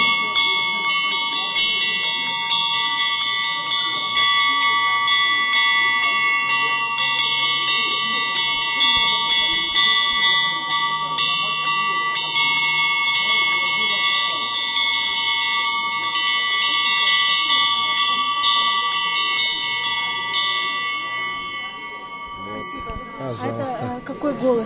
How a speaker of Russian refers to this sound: А можно вас попросить что-нибудь сыграть, какой-нибудь перезвон? Вот самый? Давайте попробуем.